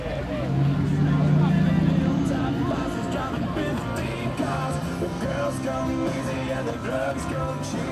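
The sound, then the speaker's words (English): A car engine hums steadily as the vehicle drives slowly along to be parked, its low drone continuous throughout, with indistinct crowd chatter in the background. “So I got to go park a car real quick.”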